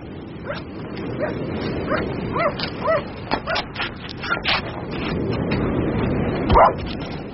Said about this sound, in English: Jasper! Jasper, come here. Hello. I know that dog. He comes from the house. Yes. He's not yourn. He's Mr. De Winter's dog.